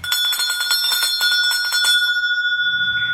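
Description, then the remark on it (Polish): A small bell rings rapidly in a bright, jingling flurry for about two seconds, its clear tones lingering and fading, followed by a faint low rumble at the end. “Jeżeli mamy jakiś dzwoneczek albo kukułeczkę, to poprosimy, to zmienimy troszeczkę temat.”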